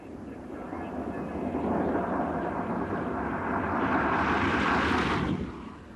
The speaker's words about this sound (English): It's actually rather quiet. It sounds more like a hum coming from the car.